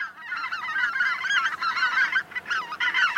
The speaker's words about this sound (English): Greater white-fronted geese nest in the high Arctic across North America and from Greenland to Siberia. In fall and winter, they can be seen in Texas, Louisiana, California, and Mexico.